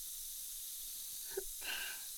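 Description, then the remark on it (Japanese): A soft fizzing hiss of foam bubbling at the ear, one ear at a time, runs steadily throughout, with a tiny pop partway in and a brief swell of foamy bubbling near the end. No one speaks. “シュワーッと、まずは片耳ずつ。パチパチ、シュワシュワ、音鳴ってる？”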